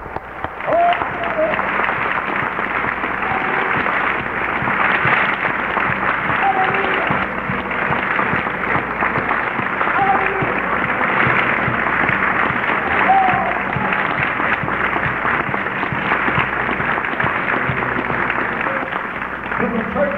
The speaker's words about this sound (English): How many thank God for the revival we're in? If you do, give the Lord a hand clap. Come on.